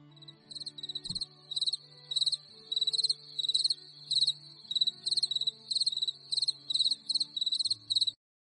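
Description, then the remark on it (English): Crickets chirp in a steady, rhythmic series of bright, high pulses, repeating about every half second over a quiet background with a faint low hum and no talking. “And yes, those crickets chirping where Tracy's voice would normally chime in means that sadly she won't be with us this week.”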